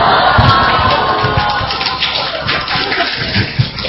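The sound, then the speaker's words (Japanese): An audience applauding: a dense, steady crackle of many hands clapping at once, loud and sustained for the full length with no voices standing out above it. “拍手出ましたよ、拍手が。”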